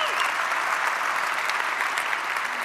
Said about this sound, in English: She's held that post since 2022, the first female anchor of Fox News Sunday in the 26-year history of Fox News. She also serves as the chief. Yeah, you can give her some applause for that.